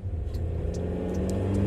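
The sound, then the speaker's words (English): The engine of White Jerry's car rumbles and revs, its low hum swelling slightly louder as the vehicle pulls away, with no voices over the brief, steady motor sound. “We did, however, take White Jerry's car.”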